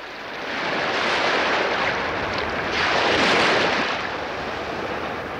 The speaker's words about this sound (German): Brandung zwischen Baggern und Bojen. Ein Bericht über den Wiederaufbau Helgolands